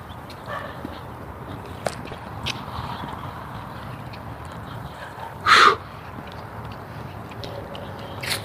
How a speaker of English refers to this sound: Dogs. Backyard dogs.